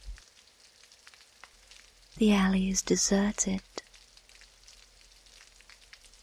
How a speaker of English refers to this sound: No sound but the rain.